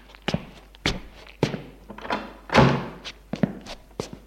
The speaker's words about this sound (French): À 9h, on sonne à la porte. Il va ouvrir.